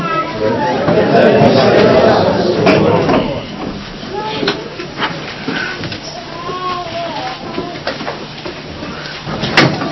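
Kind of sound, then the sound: household object, door being opened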